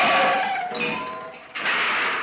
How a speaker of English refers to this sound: Ma'am, ma'am, I can hear Dad's scooter. He'll be home for tea in a minute. Look, here he is. He's putting his scooter in the garage.